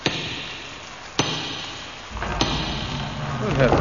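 Three loud, sharp knocks on the wooden door of a house in pouring rain, spaced about a second apart, each ringing briefly before fading, with a low murmur of background noise rising toward the end.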